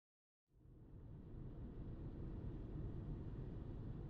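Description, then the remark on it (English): After a brief silence, the steady low rumble of Mama Amaretta's car driving to the clinic in Cypher City begins, a constant engine and road drone that holds at an even level, with no voices. “Mama Amaretta finds herself in her car driving to the clinic in Cypher City.”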